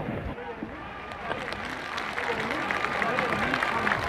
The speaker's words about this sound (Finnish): No niin, Hakulinen on kuulemma tulossa. Kansa siellä kohisee. Ja hurraat alkavat kaikua. Hakulista ei vielä näy, mutta huuto on jo aika ankara tuolla kirkon mäellä.